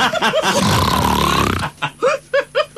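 A loud, rattling snore-like snort drags on for about a second and a half, a person imitating snoring with a flapping throat and loose palate. A few short voiced bursts follow.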